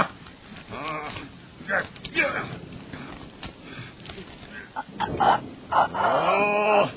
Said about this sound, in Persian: داره صدای خرخر کردنش در میاد. دهنتو باز کن تا کمربند رو شلش کنم.